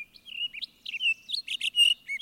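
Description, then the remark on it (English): Recorded song of a fruit-eating, seed-spreading songbird in quick, high-pitched bursts of chirps, trills and warbles with brief pauses between phrases, clear, with no talking. “So they played four different bird songs in that, I believe.”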